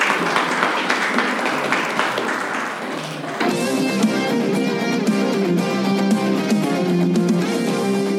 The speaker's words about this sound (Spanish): Un aplauso para Alonso.